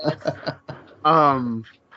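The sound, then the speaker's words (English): A female dog pants in a few quick, rhythmic breaths, followed by a longer voiced sound and some talking. “Can y'all hear her breathing?”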